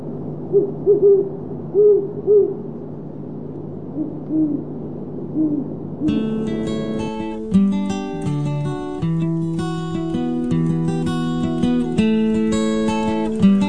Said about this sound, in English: Today's phonology is about great horned owls.